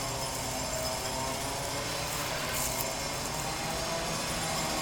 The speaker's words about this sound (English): I was on the roof, but I don't know if you can hear it, but there's some heavy construction going on. So I'm walking to the other side of the rooftop here. Ooh, I think that's a jackhammer.